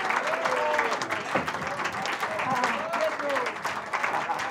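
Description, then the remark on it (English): An audience applauds a musical performance on a recording day, steadily for several seconds, a dense wash of many hands clapping at an even level, with a few voices calling out over it. “And thank you for bringing your claps on our recording day.”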